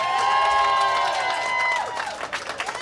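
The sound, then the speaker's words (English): An audience bursts into loud applause and cheering for Wendy Dio at a celebration event, with sustained whoops and shouts over dense clapping that thins into scattered, uneven claps toward the end. “Ladies and gentlemen, a warm round of applause for Wendy Dio, everybody.”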